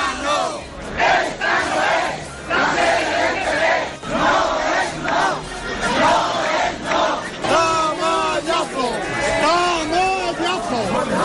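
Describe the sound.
A large crowd of party supporters outside the PSOE central headquarters shouts rhythmic political chants of "Pedro, sí! Susana, no!", backing Pedro Sánchez against Susana Díaz, many voices rising and falling together in loud repeated phrases, with overlapping yells filling the gaps between chants.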